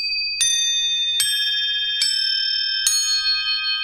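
Crotales, small tuned metal discs made of cymbal alloy, ring out in four bright, high-pitched strikes spaced about a second apart, each metallic tone sustaining and shimmering into the next, played alone with no voices.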